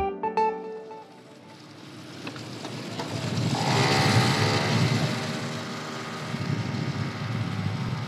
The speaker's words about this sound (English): The young man twists and turns through the streets of Beirut on his scooter.